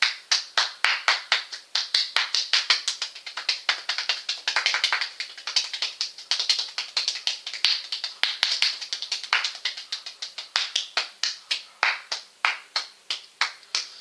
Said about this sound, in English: And you will get tired after a while when you clap. So don't expect that you can do it for a whole minute straight.